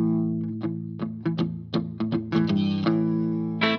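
An electric guitar played through amp-modeling effects, with a buzzy, lightly distorted tone: a run of about a dozen sharply picked notes and chords over a sustained, ringing low chord, with no talking.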